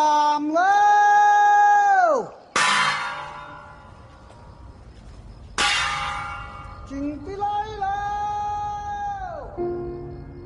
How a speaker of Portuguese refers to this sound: o filme ganha ainda um toque único por exibir os usos e costumes dos habitantes do sul da China, como o som de gongo, que alertam as pessoas para tomar cuidado com o risco de incêndio durante a noite.